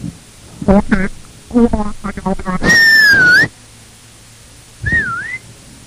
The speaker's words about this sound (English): What a night that is. What a night out there. Nobody, no walls for that whistle to come back.